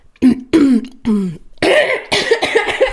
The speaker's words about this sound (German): Oh, da ganz schöner Frosch im Hals, so passend zu Tieren.